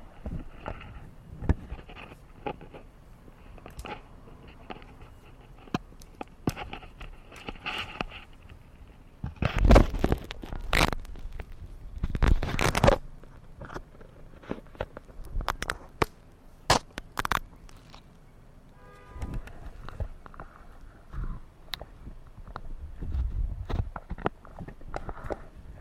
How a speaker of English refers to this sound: And we're going to listen to that fluid moving when I bounce the front end of the motorcycle up and down on its suspension.